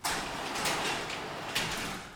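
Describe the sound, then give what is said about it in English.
The gate to Splash Kingdom slides open with a steady, hissing scrape that runs for about two seconds, marked by a few sharper clunks along the way. No one speaks over it. “Gabriel, open the gate.”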